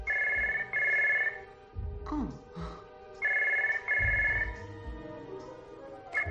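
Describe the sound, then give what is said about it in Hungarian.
A telephone rings loudly twice, each ring a quick double burst of bright electronic trilling separated by a short pause, with faint voices and room noise underneath. “Kérem, vegye fel a telefont.”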